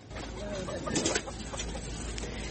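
A large flock of chickens clucking and murmuring together in a dense, continuous chatter, with a slightly louder cluster of calls partway through and a steady low background rumble; about 1000 chickens moved by charter flight from a farm in Iowa to a sanctuary in California, USA.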